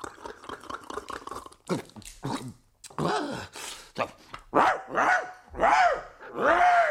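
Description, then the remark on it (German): A voice imitates a very large dog, letting out a string of barks and yelps that grow louder and more forceful, ending in several loud, drawn-out woofs. “Noch mal Schnaps und noch etwas lauterer bellen muss ich da.”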